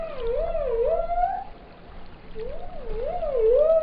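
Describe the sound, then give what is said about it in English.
Dolphin whistles: two wavering, rising-and-falling tonal calls with a warbling, squeaky quality, sounding over a steady underwater hiss. No one speaks. “for example, and dolphins, they have special organs behind what you call the melon of their head, and they have this organ that uses pressurized air, and they make click noises and whistles that are unique to each species and individuals.”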